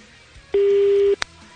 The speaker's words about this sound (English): Why is your phone ringing so long? Sorry. It's an international call. The phone rang quicker.